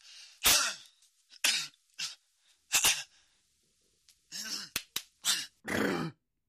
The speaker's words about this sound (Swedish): Ja men harkla det då, för det låter liksom förfärligt. Tycker du att du harkla till det?